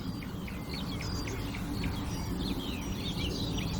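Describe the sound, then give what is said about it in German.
A warbler's dry, pebble-like calls repeat in quick clicking bursts, high and sharp, over a steady low rumble of background noise with faint chirps mixed in. “Jetzt hört ihr sie, das kieselsteinartige Rufen der Menschgrasmücke.”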